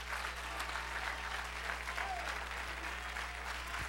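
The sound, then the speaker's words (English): An audience claps hands steadily in praise to God, a dense wash of applause with a faint voice or two mixed in beneath it, holding at an even, moderate level throughout. “My God, clap your hands unto him and bless his name.”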